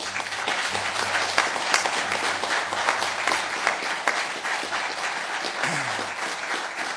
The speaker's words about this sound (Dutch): Ik wil wel even een applaus voor onze dames.